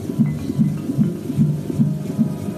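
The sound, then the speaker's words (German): A fetal heartbeat on a Doppler monitor: rapid, steady whooshing thumps at about two and a half beats per second, muffled and low over a faint hiss, with no voices. “Hören Sie das? Das ist der Herzschlag Ihres Babys.”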